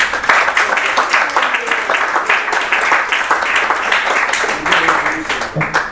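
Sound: audience round of applause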